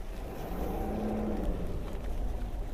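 A bus engine idles in a steady, low rumble with a faint droning hum, continuous for the whole stretch, with no voices, as people get back on the bus at a radioactive nuclear plant site.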